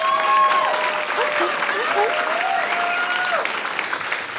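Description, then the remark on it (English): A crowd applauds to show agreement that time is money, breaking into steady applause, dense clapping sustained at a fairly loud level for several seconds, with a few faint whoops and voices threaded through the noise. “Applaud if you believe time is money.”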